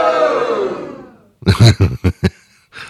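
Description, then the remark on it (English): A loud, droning crowd boo sweeps downward and fades out, followed by a string of four or five short, sharp vocal bursts like jeers or grunts. “This sounds like the people standing outside of a Donald Trump rally. Yeah, boo.”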